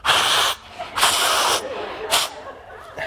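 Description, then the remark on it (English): Someone blows their nose in a series of loud, breathy, hissing bursts: two long honks, a shorter one, then the start of another, with no talking. “I'll blow my nose.”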